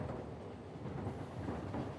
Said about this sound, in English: He rode a phantom train by night. The opening signature was the distant wail of a locomotive whistle, fading in gradually until the rumble of the train could be heard.